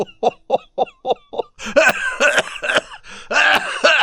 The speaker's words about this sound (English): He began to cough, and the old slave struck him on the back. He began again and started coughing.